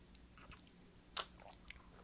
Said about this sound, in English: Come on. Here we go. Sips.